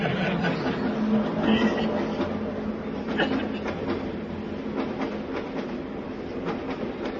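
Inside a packed, hot, moving train: a steady rumble with scattered rattles and clacks from the carriage, and an indistinct murmur of passengers talking underneath throughout.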